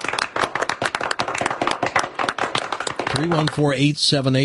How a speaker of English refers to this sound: Round of applause.